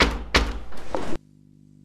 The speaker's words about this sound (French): Ils rentrèrent dans le château. Ils toquèrent à la porte.